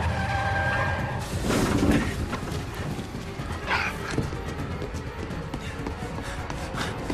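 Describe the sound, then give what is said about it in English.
A car with its tires shot out skids out of control, rolls down a bank and crashes, with a loud, dense burst of impact around two seconds in, followed by continuous rumbling and clattering debris. “He loses control and rolls down a bank.”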